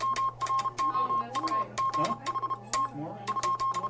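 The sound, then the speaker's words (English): A Morse code message, the last one sent on the world's oceans (July 12, 1999), beeps out the words "What hath God wrought" as a steady high-pitched tone keyed in quick short and long pulses, with sharp clicks alongside and faint talk murmuring underneath. “On that day, July 12, 1999, the Morse operators who had tapped out these signals for years, even decades, gathered to say goodbye.”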